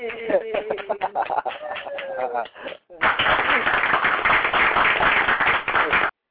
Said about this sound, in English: Audience right now, a little tiny audience, but they're cool, they're keeping quiet, you know, they're not like, you know, they're not loud or anything like that, so when I tell them to clap, you know, they clap, hey, clap, there you go, so.